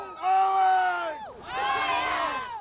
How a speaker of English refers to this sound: 36 tough fans brave frigid cold and snow flurries to cheer on the team as they left for the game.